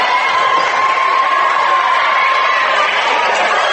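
A loud, steady roar of a basketball crowd cheering at the Shelby County League boys opener between Bodkins and Fairlawn, a dense wash of voices and shouts that holds constant through the whole stretch with a faint sustained whistle-like tone running underneath.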